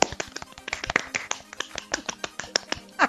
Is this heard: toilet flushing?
no